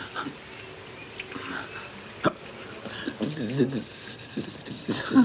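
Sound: dog panting and whimpering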